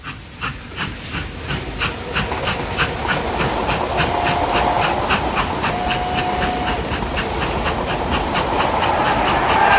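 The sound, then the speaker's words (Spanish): A steam locomotive chugs along in a steady, rapid rhythm of hissing puffs over a rumbling, clanking roar, with brief high whistle-like tones cutting through, part of a sound montage illustrating the poem "Locomotoras, gritos, arsenales, telégrafos" from the 1922 collection Andamios Interiores. No one speaks. “Escuchemos Locomotoras, gritos, arsenales, telégrafos, de sus poemas radiográficos de Andamios Interiores, 1922.”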